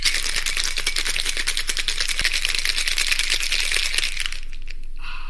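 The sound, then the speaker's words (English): A cocktail shaker rattled hard and fast for about four seconds, ice clattering in a steady rapid rhythm, then it stops abruptly and a faint rustle trails off. No one speaks. “before any of this madness continues, it is time for us to go into the poisonous cabinet kitchen and shake up a storm.”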